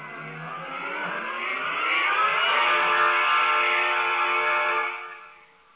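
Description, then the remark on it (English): A steam locomotive labors to pull its train, a steady mechanical roar that climbs in pitch and grows louder, holds strong, then drops away at the end. No voices. “It's coming back. Dear old tea kettle. Keep pulling.”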